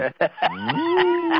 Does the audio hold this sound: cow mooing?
yes